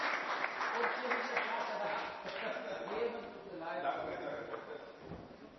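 An audience claps steadily for several seconds, a dense wash of hands mixed with cheering and chatter from the crowd, fairly loud and close throughout.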